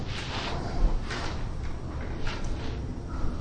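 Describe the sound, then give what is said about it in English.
Heavy doors slide open with a continuous low rumble and scraping hiss, swelling a few times over several seconds at moderate loudness, with no voices present. “The doors opened, the announcer came out and spoke to the subjects.”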